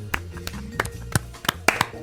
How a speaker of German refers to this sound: Ich klatsche. Ich weiß nicht, ob man es hört, aber...